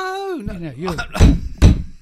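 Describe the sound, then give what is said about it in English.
A voice sings a short rising-and-falling note, then three heavy, loud knocks land on a door at uneven intervals, each a dull, booming thud. “No, Lars is at the door.”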